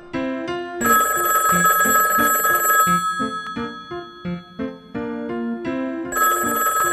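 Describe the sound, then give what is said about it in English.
A loud telephone bell rings in a long metallic burst, pauses while a few tonal notes play, then starts ringing again at the end. “First, let me get the phone.”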